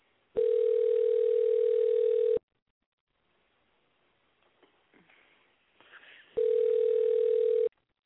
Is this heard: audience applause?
no